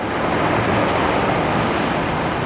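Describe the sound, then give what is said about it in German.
Steady, full-bodied roar of ocean surf breaking on the coast, a dense continuous wash of noise without any voices. “Also Meeresrauschen, die Brandung, die an der Küste zu beobachten ist, aber auch die Interaktion von Wellen im tiefen Ozean.”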